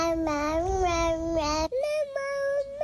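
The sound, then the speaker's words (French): A baby babbles, with a long high-pitched voiced stretch followed by a few shorter repeated syllables like ma-ma, made by closing and reopening the mouth while voicing an 'a', with no one else speaking. “Je vous ai trouvé quelques enregistrements de bébés qui le font, on écoute.”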